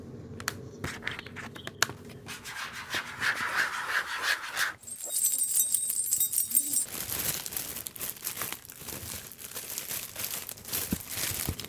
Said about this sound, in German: Den Schlüsselbund, also das Glockengeräusch praktisch und so eine Folie,